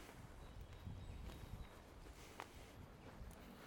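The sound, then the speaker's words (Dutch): Horses walking at a slow pace, their hooves clip-clopping in soft, irregular steps, fairly faint against a low outdoor rumble, with no one speaking. “Een paar mooie paarden.”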